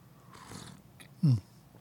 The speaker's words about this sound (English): And a sip of coffee or two. Good stuff. Like I said, I'm rapidly running out of the Trailblazer blend from Montana Coffee Traders